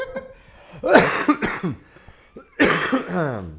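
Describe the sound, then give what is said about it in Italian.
Two loud bouts of harsh coughing, the first a quick cluster of hacks and the second a single strong cough trailing into a raspy, voiced exhale, with a short quiet gap between. “Questa tosse.”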